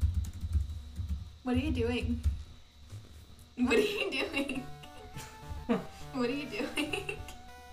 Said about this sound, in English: What are you doing? I see where you're typing.